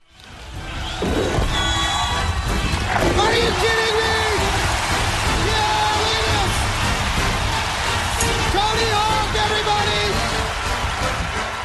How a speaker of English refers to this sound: Are you kidding me, says ESPN. I mean, they got the music, they got the applause, they got it all going on there.